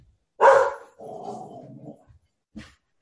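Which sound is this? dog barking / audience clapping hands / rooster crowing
dog barking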